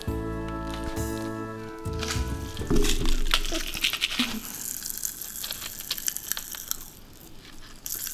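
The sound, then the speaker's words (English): A steady tone fades out, then a dense, fizzy crackle of Fizz Whiz strawberry popping candy popping in the mouth takes over, many tiny irregular snaps and crunches layered over a wet, hissing background for several seconds. “I like the way it pops in my mouth.”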